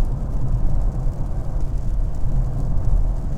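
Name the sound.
car engine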